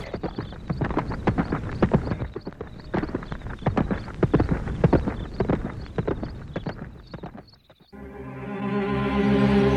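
horse hooves clip-clopping

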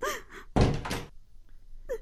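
door opening

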